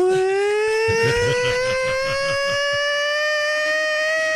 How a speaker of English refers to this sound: The old Islanders siren. You never thought you'd hear it again. And there it is, live, with Ted Lindner. And you can hear the crowd chanting. You can just hear the crowd cheering as if Bossy just scored. It's incredible. It's 102.3 WBAB. So lifelike.